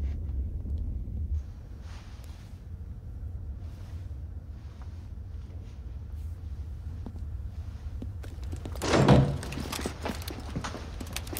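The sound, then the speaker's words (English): An unlocked door is opened near the end, a short burst of clicks and a scraping sweep rising above a steady low rumble. No one speaks. “The door was unlocked.”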